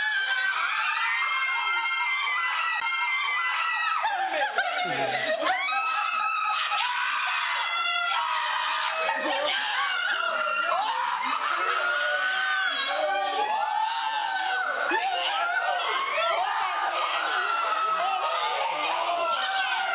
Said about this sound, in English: Your grandparents screamed like this when they heard that you were coming? What do you think? I don't know where Mom... Did they scream like this, Mom? Not quite that much.